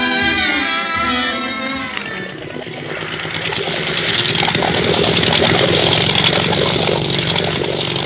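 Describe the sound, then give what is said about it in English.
A motor launch's engine runs loud for the whole stretch on the water off Madeira, with a tonal whine at first that settles into a steady, rough droning roar. No voices are heard. “Isn't this a swell boat,”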